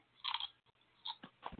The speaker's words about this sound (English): I'd like to eat my burritos without crunching on the egg.